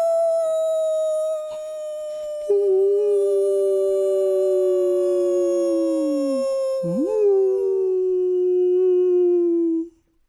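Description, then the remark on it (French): A long, loud, mournful wolf howl holds one drawn-out pitch for about ten seconds, sliding lower partway through and wavering briefly before trailing off abruptly. No one speaks. “Serait-ce le loup ? Il hurle à la une, comme se plaisait à le dire le directeur en chef de Reichshausen.”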